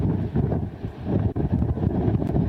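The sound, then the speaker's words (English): Strong wind in a giant windstorm at Carolina Beach, North Carolina, buffets a reporter's microphone, producing a continuous loud low rumble with gusty thumps and fluctuations, overwhelming, with no clear voices. “It's windy as shit where you are.”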